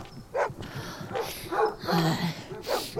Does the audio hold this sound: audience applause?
no